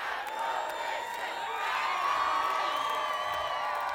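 A large concert crowd cheers and whoops continuously, encouraging the band to come back for an encore, a sustained roar of shouts and whistles that swells slightly midway and holds steady, with no spoken words.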